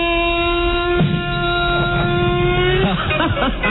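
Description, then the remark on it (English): A car engine starting sound effect: a brief cranking sputter catches into a loud, steady droning hum, then the tone shifts and roughens as the engine revs toward the end. “All right, Rob finally found the car starting sound effect.”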